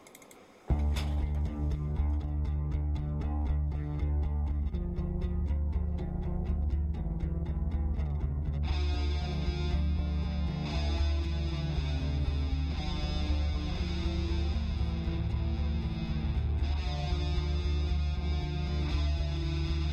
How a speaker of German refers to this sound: Wir hören jetzt etwas Musik zur Auflockerung